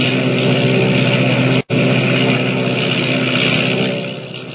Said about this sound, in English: Motors roaring, the giant seaplane skims across the water and rises into the dark, foreboding sky,